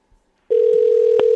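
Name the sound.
telephone being dialed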